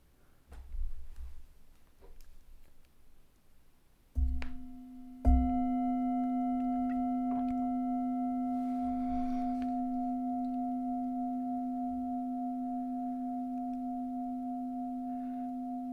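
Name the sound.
gong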